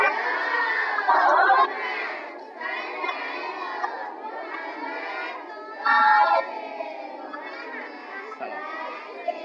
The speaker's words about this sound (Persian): بچه صلوات بفرستید، حواسا جمع بشه. اینجوری صلوات میفرستن؟